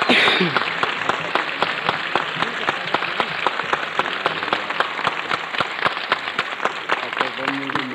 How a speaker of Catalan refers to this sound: Benvingut, i així tens l'ovació de la plaça major de la nostra vila i raval.